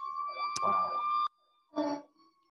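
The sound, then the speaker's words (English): A fire truck siren sounds as a loud, steady high-pitched tone with bright overtones, a sharp click partway through, then cuts off abruptly. A short burst of voice follows after a pause. “Again, sorry about the fire truck.”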